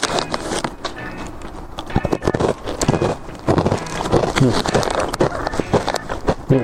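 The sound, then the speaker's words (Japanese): Crunching of a hard, crunchy milk karintou snack, made with milk in place of water, with a steady run of crisp, loud bites and chews that continue for several seconds. “やっぱ噛み締めるごとに、なんでしょう、ミルクの甘みを感じる。”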